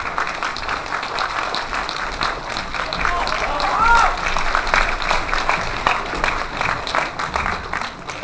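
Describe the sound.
A room full of people claps steadily to welcome a lecturer to a talk on the features, innovation and development of the Xin school of opera, a dense wash of applause that stays fairly even for about eight seconds, with a brief voice or whistle-like tone rising out of it midway.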